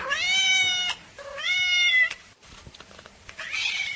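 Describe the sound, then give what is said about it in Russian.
A cat meows twice, each call long, loud and drawn out with a brief pause between them, followed by quieter scuffling noises. “Кошки придут. Я ихний язык-то не могу изучить никак.”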